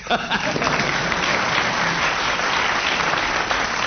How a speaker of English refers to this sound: The audience may applaud if you're getting warm.